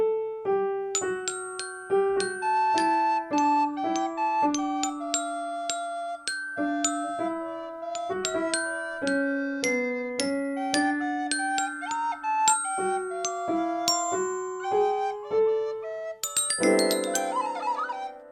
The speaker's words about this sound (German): Los, jeder schnappt sich sein Instrument und spielt ein Schneelied. Du die Flöte, ich spiele Klavier und du